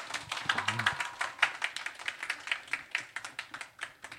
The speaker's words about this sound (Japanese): 送ってくださって神様に感謝して拍手を持ってお迎えしましょう。ハレルヤ。